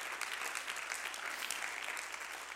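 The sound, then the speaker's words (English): An audience claps their hands unto the Lord together in a steady, dense wash of applause that holds at an even level throughout, with no voices standing out. “Would you clap your hands unto the Lord tonight?”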